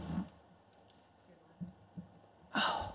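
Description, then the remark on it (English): Breathy puffs hit a microphone, a soft low one at the start, then two faint thumps and a loud, rushing exhale near the end, with quiet room tone between, just before a Government Operations Committee meeting was called to order on July 31st, 2019. “Oh, just breathing into that thing.”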